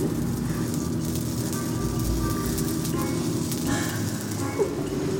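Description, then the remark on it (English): Previously roasted broccoli sizzles on a griddle as it is crisped up, in a steady, unbroken hiss that holds for several seconds over a low, droning hum, with one small pop near the end. “I'm putting the broccoli on the griddle, and it's sizzling.”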